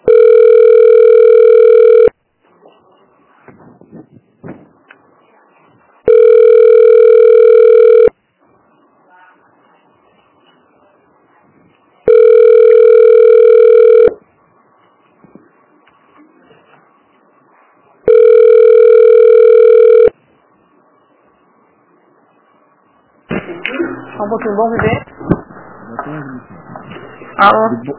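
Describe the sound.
A telephone ringback tone sounds four times while the caller waits on hold on the phone line of the Unidade de Saúde Bom Viver health unit. Each steady two-second burst is separated by long quiet gaps, loud, before a person starts talking near the end.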